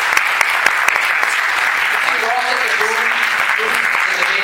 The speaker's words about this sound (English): just a quick round of applause for Ross and his team